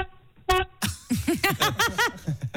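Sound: truck horn honking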